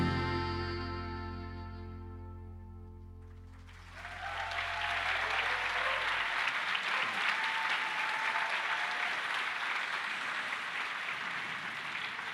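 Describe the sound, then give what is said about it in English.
At a live concert, a held musical chord rings out and fades, then an audience breaks into loud, sustained applause that continues steadily for several seconds, dense and crowd-wide, with faint cheers mixed in. “You must be clapping for these guys, not for me, right?”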